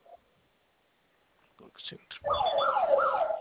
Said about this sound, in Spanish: Sonó su alarma y vamos a ingresar su clave que registró.